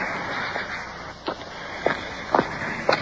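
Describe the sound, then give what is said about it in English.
Footsteps crunch along a slim stretch of rocky beach at a steady walking pace, about five scuffing steps, with a constant hiss of water pouring over a waterfall in the background and no talking. “Make our way along this slim stretch of rocky beach here.”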